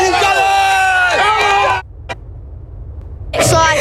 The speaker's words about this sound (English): Supporters have set off flares and climbed lampposts to cheer on their heroes during a two-hour open-top bus parade.